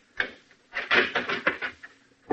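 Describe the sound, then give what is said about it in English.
A key rattles and turns in a door lock: a short run of sharp metallic clicks and scrapes, with a final click as the latch gives. No voices. “I'd been there about a half an hour when I heard his key in the lock.”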